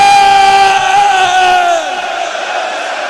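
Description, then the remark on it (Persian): A large crowd of men and women, including those outside, shouts the name 'Hussein' (Imam Hussein) together in one long, loud, sustained cry whose pitch slides downward before it breaks off into a lingering murmur of voices. “زن و مرد دستا بیاد بالا، بیرونیا همه میخوام فریاد بزنن حسین.”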